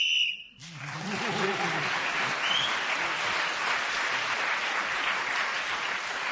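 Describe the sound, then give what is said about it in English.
A studio audience on a panel game bursts into sustained, dense applause that stays loud and steady for several seconds, following a brief tonal whistle-like sound at the very start, the game whistle. The audience is applauding Paul Merton for admitting he cheated in his A-level history exam. “That must be the first time anybody's got a round of applause for admitting they cheated.”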